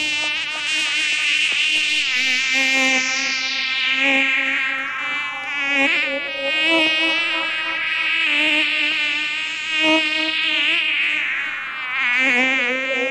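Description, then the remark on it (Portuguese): A loud, continuous buzzing drone of bees in beehive boxes, steady, its pitch wavering and swooping up and down throughout, with no voices. “Essas caixas de abelha.”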